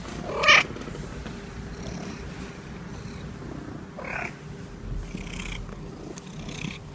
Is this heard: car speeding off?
no